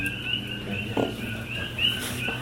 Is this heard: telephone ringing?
no